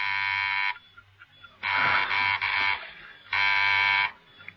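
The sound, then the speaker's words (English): A door buzzer at a clockmaker's workshop rings in a coded pattern: three loud, harsh electric bursts, the middle one longer and slightly broken, with short pauses between them and a faint low hum underneath. “There was a sudden coded ring at the door.”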